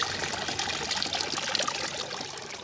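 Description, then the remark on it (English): Water pours steadily into an archaeological flotation tank, a continuous splashing trickle with bubbly highs that holds at an even level throughout, with no voices. “No black bits, no nothing, and it's hit the water and bang. So much stuff has come up and out of it, and that's why flotation is important.”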